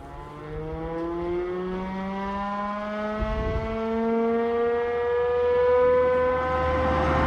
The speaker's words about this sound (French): On dirait une sirène. Qu'est-ce que cette sirène ?